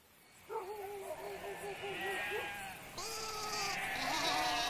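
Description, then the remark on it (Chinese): Two long, quavering sheep bleats follow one another, each a wavering mid-pitched call with a rapid tremble, the second rising slightly at its end. A soft background hiss fills the gaps. “从前有一个牧羊人，在山谷里放羊，他发现有一只狼远远地跟在羊群后面。”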